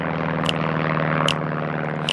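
A steady, droning airplane engine hums overhead with a constant, rumbling tone, fairly loud and unbroken, with a few faint clicks at regular intervals and no voices.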